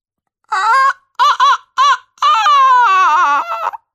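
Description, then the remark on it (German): A voice imitates a rooster crowing, as the great golden rooster on a church bell tower: four short, high, wavering bursts followed by one long drawn-out call that slowly falls in pitch, loud and on its own. “Als sie bei der Kirche vorbeikamen, da krähte auf einmal der große goldene Hahn auf dem Glockenturm.”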